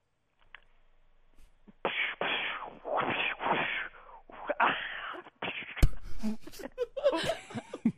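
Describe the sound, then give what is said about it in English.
A voice imitates a shootout between a cop and a bad guy with a run of breathy, hissing bursts that sound almost like giggles, then a busier stretch of sharp mouth pops and laughter-like sounds. “Your first noise that you will be trying to make is a cop and a bad guy getting into a shootout.”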